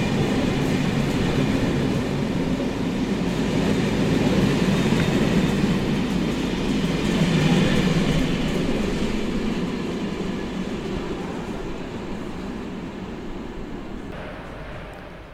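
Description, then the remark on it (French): A train, the Galaxy Express, pulls away with a steady, heavy low rumble and a broad rattling hiss of carriages, holding constant before slowly easing off toward the end. No voices are heard. “Alors, nous voilà de retour dans le train, dans le Galaxy Express.”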